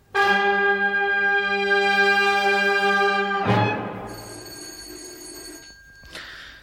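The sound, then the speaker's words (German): A doorbell rings with a loud, steady electric tone for about three seconds, followed by a brighter, fading second tone and a short final chime. “War das die Türklingel?”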